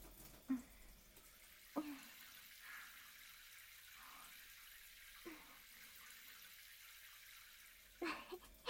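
Warm water runs steadily from a tap or shower, a soft continuous hiss broken by a few brief splashes as it rinses soap suds off a person. No one speaks.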